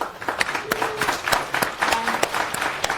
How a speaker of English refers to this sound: So, a round of applause for Javier.